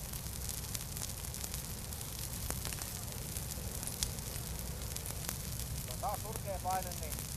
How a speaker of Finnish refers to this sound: Tähän vähän niin kuin takkatulen ääressä, mutta potenssiin 1000. Täytyy tulla kauemmas. Lämmittää, tulee niin hirvittävästi tuo lähestyvä tuli.